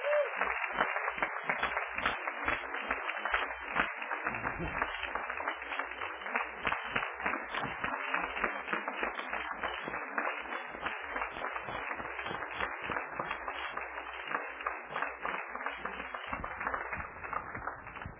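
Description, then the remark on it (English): A church audience applauds a group of kids steadily for about eighteen seconds, a dense, even wash of many hands clapping with no break and no voices rising above it. “Let's give these kids one more round of applause.”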